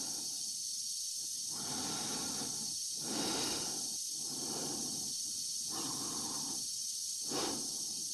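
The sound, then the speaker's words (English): Slow, heavy breathing inside a space helmet in Kubrick's film 2001, heard amplified, each inhale and exhale a hissing rush over a steady high-pitched hum, repeating in a calm, even rhythm with no one speaking. “How he builds suspense in 2001 just with the sound of somebody breathing.”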